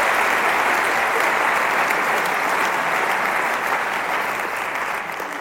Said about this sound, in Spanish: Démosle un aplauso al Señor por todos esos mártires, hombres y mujeres que han dado la vida para que nosotros estemos acá.